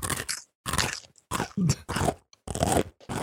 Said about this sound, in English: Crunch noise. What are you eating